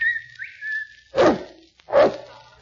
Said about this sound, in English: I'll whistle for Kelowna.